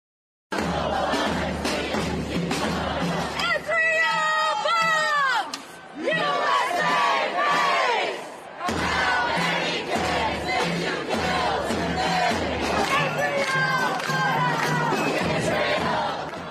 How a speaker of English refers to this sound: And they were also screaming death to America in different cities. But they were saying Israel bombs, USA pays.